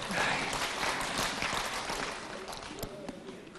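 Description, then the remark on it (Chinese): An audience bursts into applause, a dense, steady patter of many hands clapping that holds strong for a few seconds before thinning slightly toward the end. “被你们一鼓掌，图腾跑了，重新要找。”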